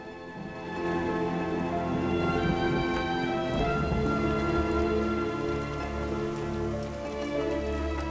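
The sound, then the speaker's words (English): Steady, heavy rain pours down during a storm with lightning, with sustained tonal sounds running underneath and no distinct thunderclaps standing out. No one speaks. “A pickup truck speeds along the road, sliding in the mud. Lightning flashes.”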